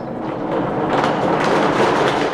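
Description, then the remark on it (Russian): A theatrical thunder machine gives a loud, continuous rolling rumble that swells after the first half-second and keeps churning steadily, mimicking thunder, with no voices present. Recorded at an exhibition opening at the Sergiev Posad Museum-Reserve in Russia. “Эта запись – не настоящие раскаты, а звук гром-машины, которая используется в театре.”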